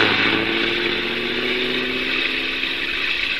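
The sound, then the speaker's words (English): A bus speeds past on a wet road at night, its heavy engine roaring steadily alongside a loud, broad hiss like tires throwing spray, holding at a constant strong level throughout, with no voices. “Stand back, honey. The bus is coming by. Might splash mud on us.”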